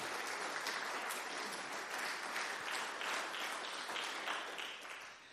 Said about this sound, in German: Gut, aber ich finde, wir können trotzdem mal einen Applaus geben für die Bremer Stadtmusikanten.